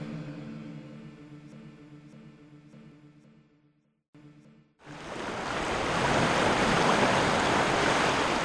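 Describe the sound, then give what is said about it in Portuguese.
A low, steady droning hum with faint periodic ticks cuts out briefly, then a loud, full rush of ocean waves out at sea crashes in and keeps surging, with no voices. “Estamos em pleno mar.”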